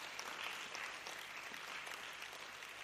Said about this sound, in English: Clap for Jesus. Yeah.